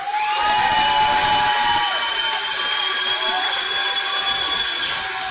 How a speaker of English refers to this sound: And right now, how about you continue that round of applause for your head coach, Jay Maia, everybody.